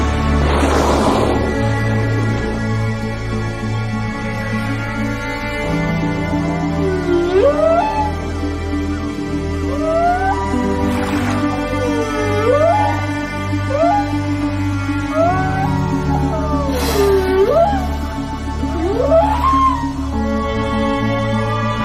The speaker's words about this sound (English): But of all the sounds of nature, nothing is quite like the whale song.